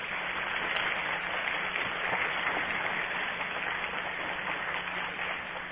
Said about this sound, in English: A round of applause for the Waco kids.